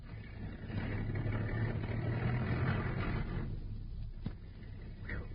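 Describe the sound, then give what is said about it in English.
A car engine rumbles past on a street at midnight, a steady low drone that swells through the first few seconds and then gradually fades as the vehicle moves away. “We've got to get out of sight before they turn the corner.”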